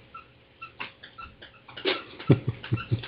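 A dog named Max squeaks a squeaky toy in a run of short, high squeaks with irregular timing, faint at first and growing louder and quicker toward the end. No one talks.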